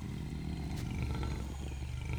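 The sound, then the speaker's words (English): A lion roars in a deep, rumbling, sustained growl that stays loud for about two seconds, with no voices over it. “Mr. Lion.”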